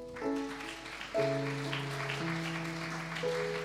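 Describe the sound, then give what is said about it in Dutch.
An audience claps for God in a dense, sustained patter, mixed with held keyboard chords that shift every second or so. No one speaks. “Zullen we God nog een applaus geven?”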